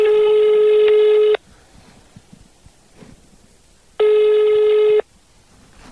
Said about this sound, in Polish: Pod numerem też tego telefonu nikt nie odbiera.